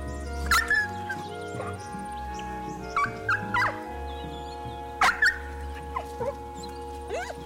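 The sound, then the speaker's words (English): A dog named Jack, made to cry for a radio feature recording, whimpers and cries in short, high-pitched whines that rise and fall, repeating in uneven bursts over a steady low hum, moderately loud. “While no animals were physically harmed in the recording of this radio feature, it is possible that Jack suffered some psychological trauma as a result of being made to cry.”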